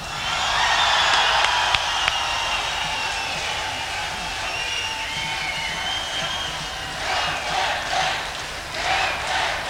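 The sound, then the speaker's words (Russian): An audience at the Sixth Leningrad Rock Festival applauds and cheers loudly and steadily for about ten seconds, a dense wash of clapping with shouting voices rising in bursts toward the end. “Ну, пусть еще раз прозвучат ваши симпатии, эмоции, аплодисменты.”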